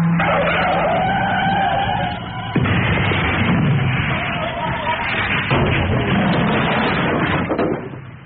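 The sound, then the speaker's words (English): A car's tyres squeal in a long skid in fog, then loud, heavy crunching crashes follow one after another as it hits nine cars, four lorries, two vans, a horse box and a hovering kestrel in a pile-up. “We hit something. 9 cars, 4 lorries, 2 vans, a horse box, and a hovering kestrel.”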